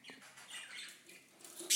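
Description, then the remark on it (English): Lutino birds chatter softly in a nest box, recorded on a phone turned towards them, a quiet run of high, scratchy chirps and twitters, ending in a brief louder rustle. “You can hear the Lutinos chatting quietly in the nest box if I turn the phone towards them in a minute.”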